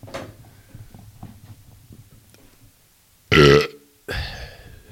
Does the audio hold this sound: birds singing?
no